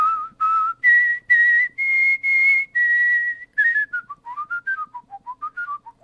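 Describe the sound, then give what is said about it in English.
Clear whistling of Twinkle, Twinkle, Little Star by a world champion whistler: two low notes, rising to repeated higher notes and a held tone, then a quick run of fluttering, descending notes. No talking. “Plus, he also performed his rendition of Twinkle, Twinkle, Little Star, which he actually does on the show for me as well.”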